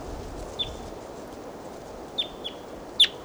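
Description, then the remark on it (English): Four short, high-pitched chirps from a wild bird, spaced irregularly over a steady low background hiss, with the last call the loudest. “And there's a wild bird here.”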